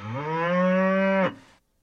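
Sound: cow mooing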